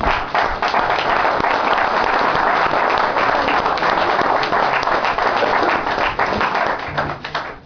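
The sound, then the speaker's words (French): An audience applauds a performer introduced during an evening of songs, steady and loud for several seconds, dense clapping before tapering off near the end, with no voices over it. “Eh bien, je vais vous demander simplement, parce que y en a un toute la soirée, là, je ne sais pas combien il y a de chansons dans la tête, si on compte en plus celle qu'il ne connaît pas, si vous pouvez l'applaudir,”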